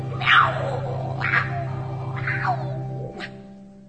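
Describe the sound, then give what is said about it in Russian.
A cat meows three times in slow succession, each call rising and falling, followed by a brief higher chirp, all over a steady low background hum. “Мяу! Отлично! мой час настал.”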